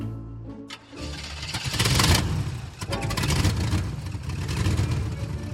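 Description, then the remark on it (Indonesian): A truck engine turns over and catches after a brief pause, then rumbles steadily and loudly with some revving as the truck drives away, with no voices heard. “Truk itu pun pergi bersama sang pria bertopi fedora.”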